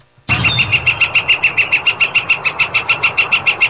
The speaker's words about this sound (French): Il utilise beaucoup son bec, ouais, cet oiseau. Oui, c'est un pic-bois. C'est un pic, t'as raison, flamboyant. Flamboyant, OK. Le pic flamboyant.